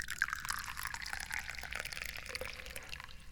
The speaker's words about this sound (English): And I'm the guy who's pouring tea.